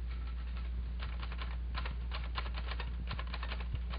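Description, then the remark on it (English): Steady, quick clacking of the keys of a small portable typewriter with a few bent keys, struck in uneven bursts with brief pauses, over a low constant hum; no voices. “This is actually Ernie Pyle's typewriter that you're hearing right now.”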